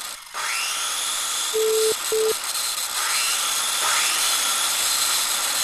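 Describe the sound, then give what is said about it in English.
A power saw whines steadily as it cuts wooden floorboards, with rising pitch sweeps as the blade bites in, plus a couple of short tonal beeps partway through. Loud, no voices. “I think while I wait, I'm going to do some sawing.”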